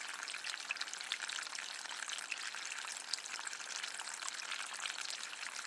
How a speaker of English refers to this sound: But I think it's one of those things, even if you have a wildlife pond, get yourself a little solar fountain or something, because it's just so relaxing to listen to the sounds of water trickling. It just soothes the soul.